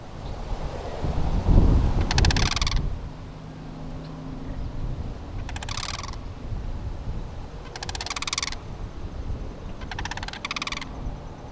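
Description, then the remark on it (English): A pair of sandhill cranes near Bath gives loud, rolling, rattling calls in four bursts a few seconds apart, some overlapping, over a low rumble of wind that is strongest at the start; recorded by Kevin Lavery. “and this one happens to tie in nicely with our discussion of the Sandhill Cranes fall migration.”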